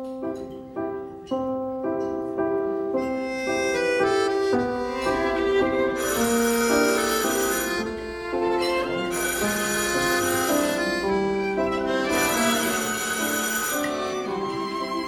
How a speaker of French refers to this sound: Ah, on m'appelle au téléphone.